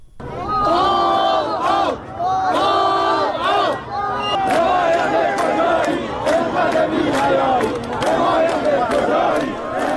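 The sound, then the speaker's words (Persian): A large crowd of hundreds of protesters gathered outside the provincial governor's office in Shahrekord, Chaharmahal and Bakhtiari province, Iran, over a days-long water outage, chants slogans such as "Death to Raisi" in unison, loud and rhythmic, with repeated shouted phrases rising and falling over a continuous roar of many voices. “مردم معترض روز سه‌شنبه در مقابل استانداری این شهر در شهر کرد تجمع کردند و شعار مرگ بر رئیسی سر دادند.”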